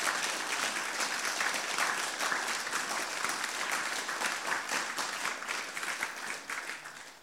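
A crowd applauds steadily, a dense wash of many hands clapping at even loudness throughout, tapering slightly at the very end, with no talking.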